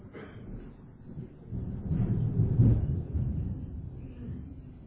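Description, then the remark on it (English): A deep, rolling rumble of thunder from a storm swells up, peaks loudly, then slowly fades back into a low, steady background murmur, with no voices present. “Storms.”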